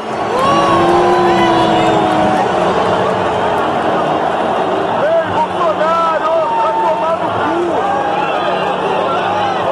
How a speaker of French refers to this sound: Voilà, une bronca de sifflets, de huées pour accueillir le président sur la pelouse. C'est un peu les jeux du cirque, hein. Le peuple a parlé.